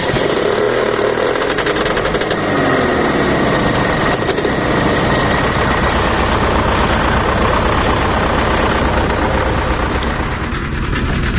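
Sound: vehicle engine running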